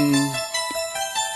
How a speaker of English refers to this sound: This song was on somebody's phone. This is their ringtone hit.